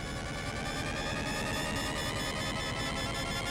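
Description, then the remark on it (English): A loud, continuous electronic firing alarm aboard the Inferno, sounded as its new weapon finishes charging before firing, blares steadily, a dense wall of buzzing tones holding without pause and layered over a low rumbling hum. “Sound firing alarm.”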